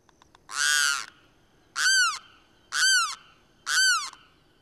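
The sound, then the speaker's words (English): A bird gives four loud, harsh croaking squawks, crane-like in tone, each about half a second long and evenly spaced, against a quiet background. “Yeah, croaking, squawking call.”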